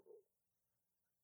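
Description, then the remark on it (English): A single short gurgling rumble from a hungry stomach, fairly loud, fading quickly into near silence with no talking. “Oh, that's my stomach.”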